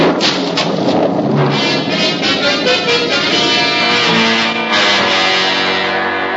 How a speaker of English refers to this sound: The storm came up quickly. Thunder boomed and lightning lit up the sky. And suddenly, at the height of the storm, a streak of lightning seared its way from a cloud and struck Little Tree with a mighty crash.